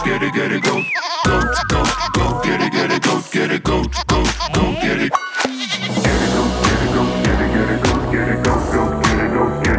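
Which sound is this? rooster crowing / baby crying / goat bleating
goat bleating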